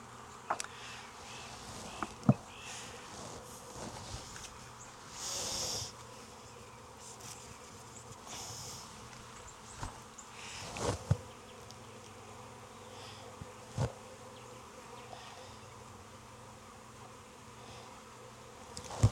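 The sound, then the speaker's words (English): A steady, dense drone of many honey bees swarming around an open hive while a beekeeper works it, broken by a few sharp wooden knocks and a brief rustling burst. “So I need to find some good nurse bees.”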